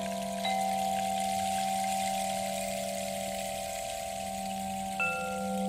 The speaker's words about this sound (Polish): Akurat dzisiaj to sobie pomyślałam, że jestem w górach i taki strumień płynie. I tak sobie siedzę po prostu nad tym strumieniem.